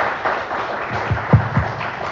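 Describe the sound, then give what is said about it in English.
A short burst of scattered clapping from a small group, a steady patter of hand claps with a few heavier, thumping claps standing out near the end, and no voices. “so let's give her some applause.”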